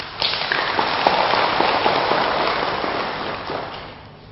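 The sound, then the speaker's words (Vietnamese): An audience at a Buddhist talk on Pure Land practice applauds steadily for about four seconds, a dense crackle of many hands clapping at once that tapers off toward the end, with no voices heard. “Và nếu như quý vị thấy rằng là điều này có thể thực hiện được, xin dâng cao tràng pháo tay.”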